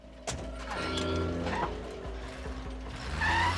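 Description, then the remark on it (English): A sharp thump, like a car door, opens onto rustling and shifting movement as someone climbs into a car, while a low engine hum idles steadily underneath; no talking. “climbs into the car”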